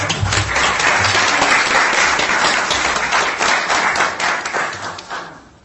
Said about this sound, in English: She may listen to this, so let's applaud her.